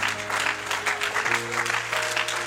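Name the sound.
audience applauding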